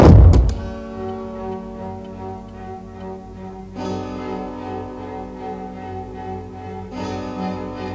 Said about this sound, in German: Und Justus verschwand. Etwas lauter als üblich ließ er die Tür hinter sich ins Schloss fallen.